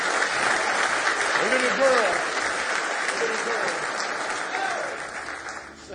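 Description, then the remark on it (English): An audience at a morning church service breaks into sustained hand clapping of praise, a dense, steady wash of applause with scattered voices calling out underneath, gradually tapering off toward the end. “Give him another hand clap of praise this morning.”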